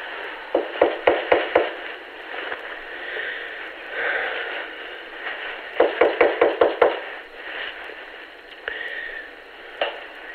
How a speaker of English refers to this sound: I'm outside the apartment. Okay, do you want me to stay on? Is that okay? Yeah, of course. All right, I'm going to knock.